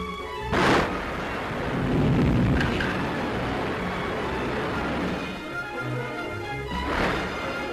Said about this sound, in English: Army top brass is seeing how huge helicopters are used in speeding the delivery and setup of the Honest John in field operations. In seconds, the launching stand is up and the rocket fired.